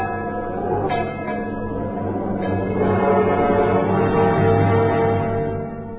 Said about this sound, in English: That ship out there must be warned. Sound the bell!